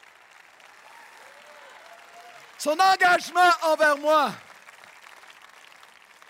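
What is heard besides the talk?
audience applause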